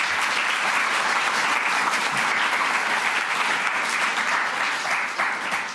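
Steady audience applause fills the whole stretch, a dense, even patter of many hands clapping at close range, holding strong throughout and easing slightly at the very end.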